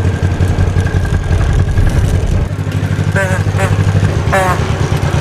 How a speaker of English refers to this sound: Wow. This is cool. It has a 2-cylinder Continental engine.